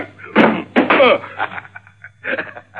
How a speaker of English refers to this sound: Your gun hit the door, Shelby. Now you have nothing.